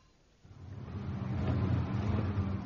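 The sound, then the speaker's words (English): A car engine starts up after a brief quiet moment, then revs and grows louder as the vehicle pulls away, a steady low rumble continuing with no voices. “Can we get a car?”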